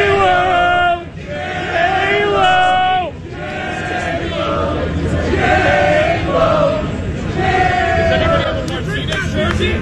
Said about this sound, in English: These are the fans yelling at the Fox crew. A-Rod's one of the commentators on this, take a listen.